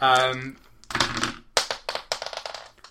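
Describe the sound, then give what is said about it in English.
A brief voice, then four dice clatter and skitter across a hard tabletop in a quick burst of sharp clicks and taps that trail off into scattered rattles. “Give me a roll of actually all four dice.”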